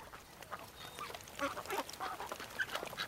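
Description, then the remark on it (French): A family of ducks at a park, being fed, quack in short, irregular bursts over a steady outdoor background hiss, the calls overlapping at moderate volume, with no one talking. “Here comes the duck's family.”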